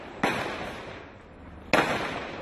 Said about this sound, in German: Am Morgen begann die gewaltsame Räumung. Panzer brechen durch die Barrikade aus Bambus und Autoreifen. Dahinter noch immer einige tausend Demonstranten mit ihren Anführern. Militär stürmt vor, Schüsse fallen, gefeuert von Demonstranten und Militär.